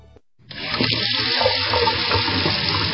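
A faucet is turned on and water runs steadily into a sink, a loud, continuous rushing splash that starts abruptly after a brief pause and keeps going.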